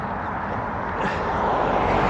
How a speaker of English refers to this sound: Right, I might have to pay attention here, because I don't want to get hit by a car travelling at speed.